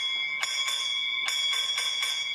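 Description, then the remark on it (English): A railway signal box block bell, in a signal box near Crewe, rings out a code: two quick strikes, a short pause, then four evenly spaced strikes, each bright with a lingering metallic ring. “That's call attention. So he responds with one bell.”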